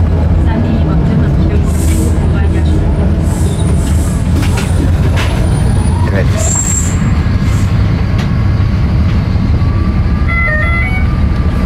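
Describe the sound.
Loud, steady engine rumble fills the inside of a noisy, moving route 22 city bus with boarding steps, approaching the Bebek stop, with rattles, clunks and faint tonal whines over it, and a voice briefly speaking.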